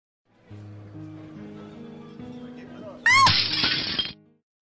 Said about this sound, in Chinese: 我是只兢兢业业了一辈子的盘子，所以我刚一摔碎就看见了天堂天使的召唤。